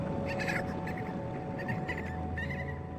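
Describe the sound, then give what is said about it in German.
A little dolphin squeaks in a run of short, high-pitched chirping bursts, repeated every half second or so over a steady, noisy watery background, clear throughout. “Warum strampelst du so, kleiner Delfin?”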